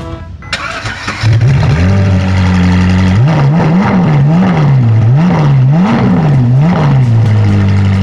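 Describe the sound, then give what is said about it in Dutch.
A red car with a horse logo is started in a car showroom. The engine cranks and catches, then settles into a loud idle before being revved repeatedly in a rising and falling rhythm, echoing slightly in the large indoor space. “Weet jij welke auto er zojuist is gestart hier in de showroom bij Autovilla?”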